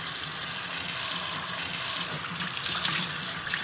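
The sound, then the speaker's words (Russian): Steady running water splashes and gushes continuously, a bright hissing wash of liquid like a tap pouring into a sink, with no voices over it. “Смотри, не набрызгай, а то мама рассердится.”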